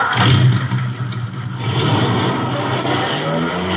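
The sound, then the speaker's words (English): A car engine revs steadily and loudly, a low droning rumble that rises and falls slightly in pitch as the throttle is worked, with no talking over it. “Rev it up.”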